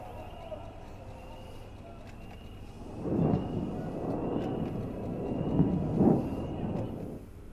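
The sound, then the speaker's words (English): Low, muffled explosions of Iron Dome interceptor missiles hitting rockets midair: a rumbling boom swells around three seconds, a rolling roar continues, and a second heavy thud follows near six seconds after a quiet start. “Just so everybody can hear, the explosion of the air of the Iron Dome intercepting the rockets.”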